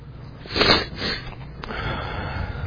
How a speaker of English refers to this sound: Sorry for sniffing, I'm still fighting a slight cold.